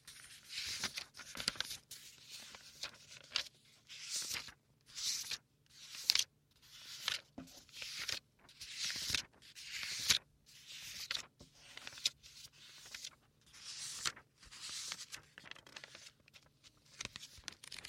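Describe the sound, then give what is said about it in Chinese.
Scratchy strokes of a pen moving across paper, coming in short repeated bursts with brief pauses between them, quiet and steady with no talking. “喜欢写字的声音吗？”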